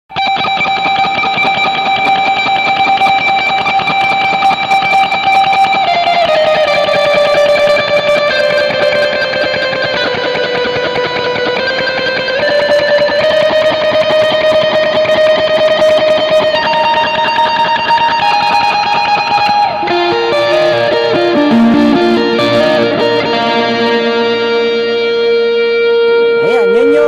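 A sustained guitar solo lead played through a preset combining tape echo and church reverb, with long singing notes and slow bends that smear into one another at a steady, loud level, no voices.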